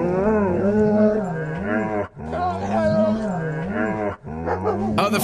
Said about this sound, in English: All right, so here's your first dog Christmas track.